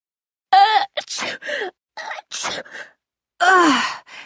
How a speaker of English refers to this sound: Excuse me. Bless you. Thanks. Ugh, these allergies are so annoying. You all must be tired of saying bless you. No, that's all right. But isn't it funny how we automatically do that when someone sneezes?